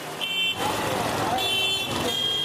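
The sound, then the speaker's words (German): Car horns honk repeatedly over a dense wash of traffic noise from vehicles squeezing three lanes out of a single lane, one short blast early on and then a longer sustained honk that carries on to the end. “Chaos durch stetiges, notorisches Hupen kompensierten.”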